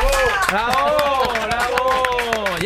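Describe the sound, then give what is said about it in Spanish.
Audience applause welcoming guests, with sharp claps ringing out in a steady, fairly loud rhythm underneath sustained voices that keep going throughout. “Seguid con el aplauso para recibir a”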